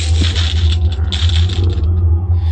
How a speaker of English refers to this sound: And it also sounds like we picked up some money that was left lying around.